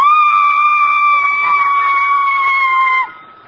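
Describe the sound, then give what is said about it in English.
A woman sings a single very high, piercing note, a high C, holding it steady and loud for about three seconds before it abruptly cuts off. “I hit a high C above a high A.”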